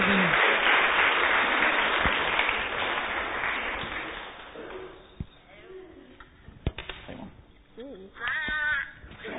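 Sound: round of applause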